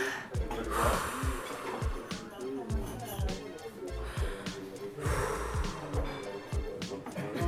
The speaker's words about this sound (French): Et est-ce que tu peux nous faire un petit son au micro de ta respiration? J'inspire et j'expire, c'est ça.